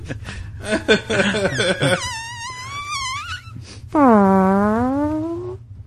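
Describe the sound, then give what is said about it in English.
A run of squeaky, wavering farts, rising and falling in pitch, followed by one long drawn-out fart with a moaning, buzzy tone that fades slowly over a low hum. “See, even at this age, farts are still fucking funny.”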